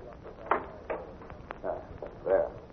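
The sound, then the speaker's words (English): An outside door being locked: a short series of muffled clunks and clicks, with a sharp knock midway and a final scraping rattle, all fairly quiet. “I just want to lock this outside door”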